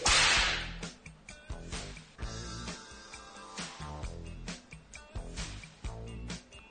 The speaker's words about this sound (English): The crack of a whip can most definitely control a group. They don't hear you. You crack the whip. Suddenly, everyone knows you are there.